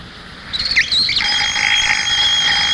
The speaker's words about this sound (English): Sounds like the wild alarm clock. Oh, that was Baby Ben. Never forgets to get you up.